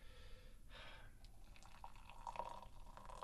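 Tea trickles slowly into a cup, a soft, thin liquid stream with gentle bubbling and rising gurgles, faint and close, with no one speaking.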